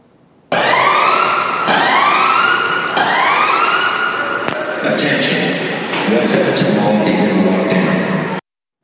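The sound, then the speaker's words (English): Loud emergency vehicle sirens wail in repeated rising sweeps at a mall in Edmonton, Canada, on a Monday afternoon after a shooting, then shift into a faster warbling pattern, with street noise and faint voices mixed underneath. “Sirens going off there.”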